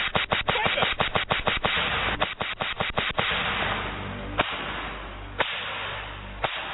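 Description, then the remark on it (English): A whip cracks again and again in a rapid, sharp, loud series, then slows to a few isolated snaps over a steady rushing background. No one speaks. “I gotta whip you. Whip him. I didn't say stop. Whip him.”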